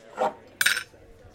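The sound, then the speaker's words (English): A man drinks water quickly in summer: one soft gulp, then a brighter splash-like clatter, as if a cup is tipped or knocked, followed by quiet. No one speaks. “you might want to slow down with your water.”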